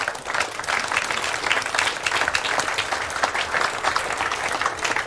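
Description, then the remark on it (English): Sustained audience applause after a talk on Tor networking, a dense steady patter of many hands clapping at fairly even loudness throughout, with no voices standing out. “A great round of applause for this tour through Tor networking.”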